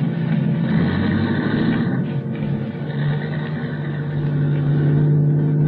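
A car engine runs steadily as the vehicle pulls away, a continuous low rumble with a droning hum that swells slightly toward the end. No one speaks.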